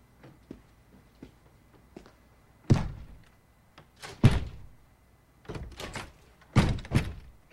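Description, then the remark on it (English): A door thuds repeatedly against its frame, several heavy bumps in quick succession after a few soft taps, as if it keeps bouncing back instead of shutting. No talking. “Door won't close.”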